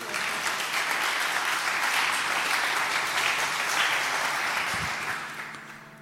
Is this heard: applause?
yes